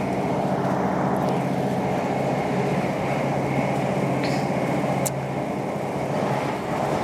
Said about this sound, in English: Oh God, these trains are so old and rickety. The slam doors, which is what I think I've told you that on before, on previous booze. Oh dear. So we're just moseying on down the railway.